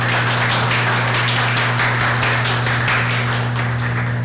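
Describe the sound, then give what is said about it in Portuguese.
Dense, continuous clapping from an audience applauding an interviewee fills the whole stretch, a steady wash of overlapping hand claps with no single beat, over a low constant electrical hum. “Muito obrigada, salva de palmas para o nosso entrevistado, né?”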